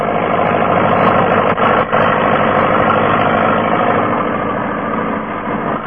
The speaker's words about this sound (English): clearing long, straight furrows through the rich loam soil with a new tractor and disc plough